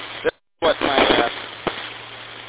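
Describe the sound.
A burst of band-limited radio audio from an FT5 handheld radio with a hard cutoff, brief dead silence, then a squelch burst and muffled, narrowband voice transmission over a steady hum, ending with a click.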